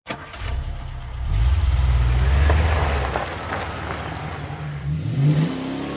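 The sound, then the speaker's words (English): A brand new blue Mustang's V6 engine revs up strongly, its pitch rising and falling as it downshifts, then climbs again near the end, driven on winding high desert roads near Palmdale, 70 miles north of Los Angeles; loud, with no voices. “She loved that car, loved downshifting its V6 engine on the winding high desert roads near their home in Palmdale, 70 miles north of L.A.”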